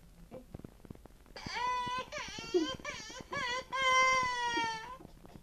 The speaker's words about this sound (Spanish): ¿Pero por qué estás llorando?